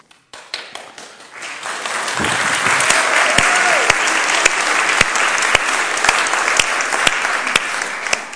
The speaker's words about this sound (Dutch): APPLAUS.